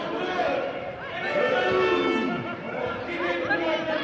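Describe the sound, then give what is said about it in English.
A large street protest crowd of workers marching across the Place de la Bastille in Paris, France, fills the air with a steady, loud wash of overlapping voices, some shouting and calling out in rising and falling tones, with no pause throughout. “This month, hundreds of thousands of disgruntled workers marched across the Place de la Bastille”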